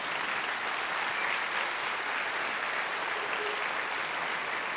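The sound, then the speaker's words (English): An audience claps steadily, a dense, even wash of many hands that holds at a constant level for the whole stretch with no voices rising above it. “Those are, that's real appropriate applause.”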